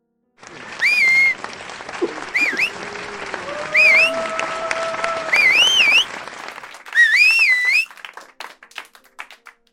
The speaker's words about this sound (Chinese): 你看我的学生们多热情，都吹起口哨了，这些男孩子都是青春旺盛的小伙子呀